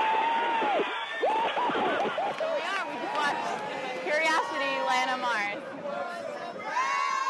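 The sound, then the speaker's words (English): A crowd of thousands in New York's Times Square cheers and shouts at a live broadcast from the NASA control room as the Mars rover touches down, in a dense, continuous roar with many overlapping excited voices and high whoops rising above the steady din throughout. “Just last summer, when the Mars rover touched down on Mars, the action in the NASA control room was live broadcast to a crowd of thousands in New York's Times Square.”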